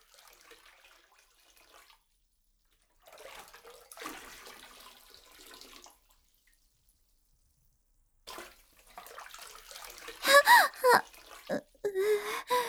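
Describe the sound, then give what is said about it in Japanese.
Hot bath water splashes and sloshes over a body as hands slowly work it over the whole body, in soft irregular bursts, pauses, then returns louder and busier, with a brief high vocal sound breaking through near the end. “まずは後ろから包み込むように抱き寄せて、ゆっくり全身に手で湯をなじませてやるがよい。”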